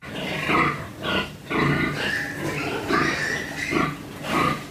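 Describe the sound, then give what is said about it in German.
Pigs grunting and snorting in a crowded pig-fattening barn in Saxony-Anhalt, Germany, overlapping calls rising and falling in a steady, busy rhythm, moderately loud with no talking. “Die Kamera schwenkt langsam durch die Gänge einer Schweinemastanlage in Sachsen-Anhalt.”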